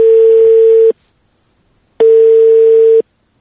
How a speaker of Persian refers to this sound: حالا توجه شما را با آخرین نمونه آن جلب می‌نماییم که روز پنجشنبه طرفای شام به شماره تلفن مورد نظر تلفن کردیم. نتیجه چنین است.